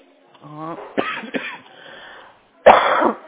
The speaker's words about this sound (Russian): Да, потому что она кашляет. Она опять кашляет. Это вообще какой-то ужас. Ночью так кашляла, ну, перед сном.